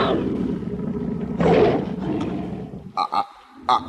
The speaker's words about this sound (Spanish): ¡Ahí está de nuevo el maldito tigre! ¡Es ella! ¡La bruja blanca convertida en tigre!